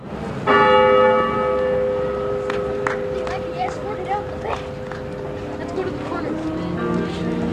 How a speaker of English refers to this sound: As those below waited in thoughtful and renewed silence, the bell rang twice more, once for each man.